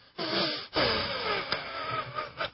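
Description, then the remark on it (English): Rough, congested breathing from someone with a cold, with a wheezy, rattling edge, heard as two or three drawn-out breaths separated by brief pauses, with a few sharp catches near the end and no talking. “That's my breathing.”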